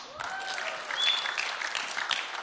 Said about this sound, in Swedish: Tack jättemycket. Ge en applåd till mig.